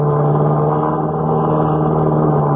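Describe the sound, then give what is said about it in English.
A crop-dusting plane, with a hook dangling beneath it and a registration number beginning NC45, drones loudly and steadily as it climbs out after a low pass. The engine gives a low, buzzing, harmonic-rich roar that holds an even pitch throughout, with no voices. “Looks like a crop dusting plane to me”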